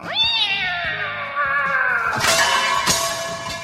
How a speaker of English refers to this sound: Then two dogs start barking. Then we hear a cat being launched noise.